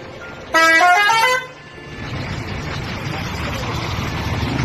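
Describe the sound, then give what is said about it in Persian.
A single loud, blaring bus horn sounds for about a second, then gives way to the low rumble of the engine as the bus pulls away and drives steadily, setting off from a village toward the city of Kerman. “قاسم قصه ما به همراه دو نفر دیگه از بچه های روستاشون سوار اتوبوس شدن و راه افتادن و رفتن به طرف شهر بزرگ کرمان.”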